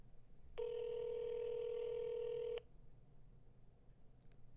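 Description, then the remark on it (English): A single steady ringback tone from a telephone on an outgoing call to a studio front desk, lasting about two seconds, clear and prominent over a faint low hum, with no one talking. “It's ringing.”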